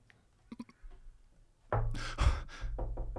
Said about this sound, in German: Ja, vier ist wahrscheinlich die gängigste Klopfvariante. Die Tür. Bam, bam, bam, bam.